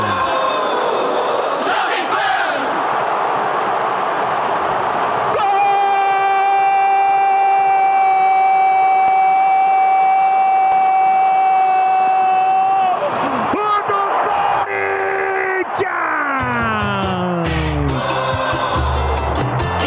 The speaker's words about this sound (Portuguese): Roger Guedes leva a torcida do Corinthians ao delírio.